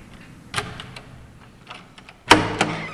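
A door opening: a sharp latch click, a few soft rattles, then a louder clunk and a second knock as it swings. No one speaks.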